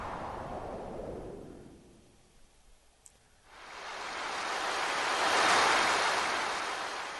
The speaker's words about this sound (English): The ocean. Something like that.